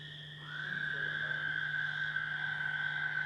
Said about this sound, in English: What are those in the background? Peepers are back there, and what else?